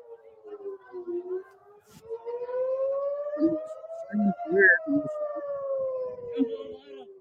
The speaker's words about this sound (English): Sirens blared in the shores of Acre for the first time since December as Hezbollah claims responsibility on recent wave of attacks